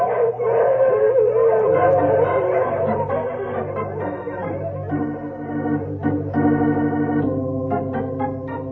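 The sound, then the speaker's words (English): A team of sled dogs on a snowy trail howls together in long, overlapping wavering cries. The howling is loud, with a few sharper yips and barks breaking in toward the end. “So I'll break the trail for the dogs.”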